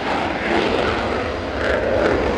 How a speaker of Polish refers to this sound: Ale i widowiskowo. Silniki startujących jeden po drugim myśliwców rozgrzewały się do czerwoności.